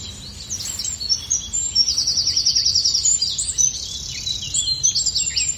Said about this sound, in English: Very familiar birds there, blackbird, great tit, robin, wren, black cap, amongst the ones I just caught snippets of.